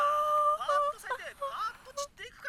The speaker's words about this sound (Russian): Эй, классно я зевнула, а?